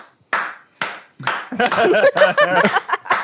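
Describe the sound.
Three sharp hand claps, evenly spaced, each with a brief ringing tail, followed by a stretch of voiced vocal sounds.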